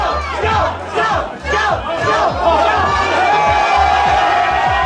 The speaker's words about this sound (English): Tony Abbott, because that's who they were cheering, became better known for downing beers and indeed onions than enjoying a quiet glass of red.